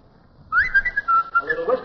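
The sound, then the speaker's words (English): A talking bird whistles a quick run of clear, sliding notes, starting after a brief pause and ending in a lower, breathy warble. “Whistling on the side, but he whistles.”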